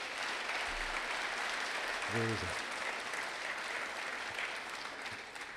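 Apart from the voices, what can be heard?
audience applause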